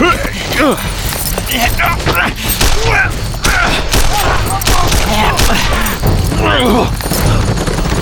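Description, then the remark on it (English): A sustained volley of gunfire from Quint Stalker's .44 Merwin and Halbert and other men's guns firing at warriors, loud sharp cracks bursting irregularly and overlapping for several seconds, with shouting voices rising and falling beneath the shots. “The others added their firepower to his.”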